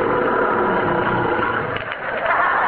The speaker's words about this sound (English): What was that? The MGM Lion. Oh, good. For a minute, I thought it was me.